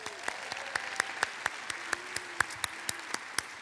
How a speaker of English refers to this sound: Let's give yourself a hand.